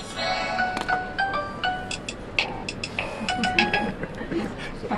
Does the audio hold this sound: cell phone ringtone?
yes